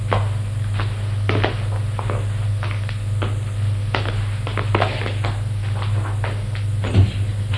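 door closing and footsteps

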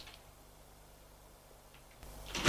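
living room door opening

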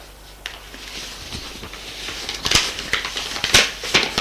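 lighter being flicked

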